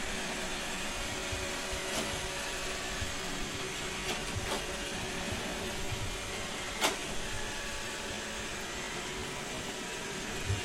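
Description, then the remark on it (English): A Roomba robot vacuum runs with a steady whirring drone, broken by a few brief clicks and bumps as it moves across the floor; no one speaks. “Not only do I have the robot component moving it around, but you're also hearing the vacuum there.”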